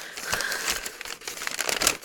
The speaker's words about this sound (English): Paper.